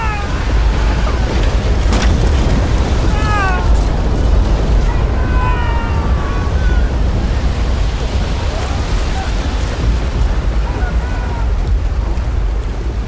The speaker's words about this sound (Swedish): Den här gången så mycket att vattnet forsar in genom de öppna kanonportarna. Skeppet tyngs av vattenmängderna och sjunker.